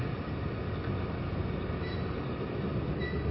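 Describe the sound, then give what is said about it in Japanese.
A local train arriving at its terminal, Kanazawa station in Japan, at platform 5 rumbles steadily along the rails. It makes a dense low-frequency roar with faint high squeals near the end, a constant drone with no voices. “終点の金沢に着きます。お出口は右側5番乗り場です。”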